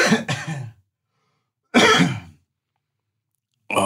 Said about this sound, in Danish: Jeg skal virkelig hoste. Ja, du hoster bare.